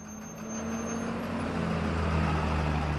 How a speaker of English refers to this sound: Just after 4 p.m. on weekdays, a procession of repurposed American school buses moves through an outlying neighborhood in Ciudad Juárez. Workers in factory smocks file out and drift across desert lots littered with tumbleweeds and trash.